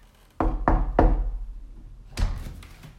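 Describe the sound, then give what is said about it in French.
Three firm knocks on a wooden office door at home in quick succession, followed a moment later by a short rattling clunk, like the door being opened. No one speaks. “Je vais ouvrir la porte de son bureau pour voir s'il est disponible.”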